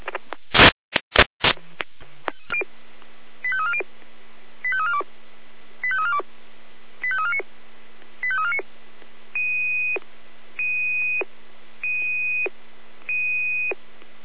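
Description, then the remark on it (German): Fire service radio alert tones alerting units to an activated fire alarm system at Langbürgel 20: several short warbling tone bursts followed by a run of steady, evenly spaced beeps over a constant radio hiss, loud, with no talking. “alarmierte Kräfte eingelaufene Brandmeldeanlage am Langbürgel 20 in Kahler. Jener in der Alarmruf.”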